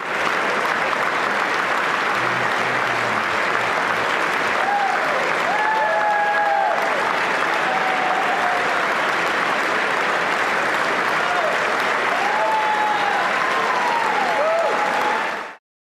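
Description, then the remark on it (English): The US Congress giving a four-minute standing ovation: a dense, unbroken roar of clapping that holds constant for the whole stretch, with a few faint whistles or cheers rising above it now and then. “The kind of blackmail material that makes an entire Congress stand for 4 whole minutes and applaud on cue, no questions asked.”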